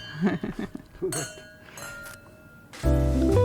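wine glasses clinking

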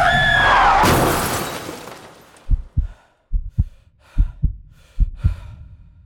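car crash

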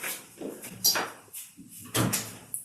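door being closed

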